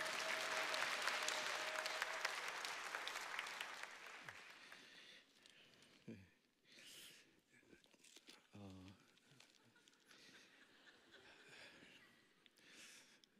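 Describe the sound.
A crowd claps loudly in a dense, steady burst of applause lasting about four seconds, then it fades, and a man begins talking with a few scattered chuckles.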